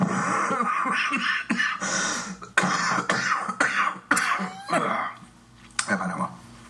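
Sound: cough with throat clearing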